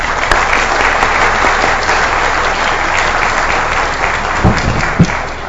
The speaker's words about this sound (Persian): خواهش میکنم با دست‌های پرمهرتون تشویقشون بفرمایید.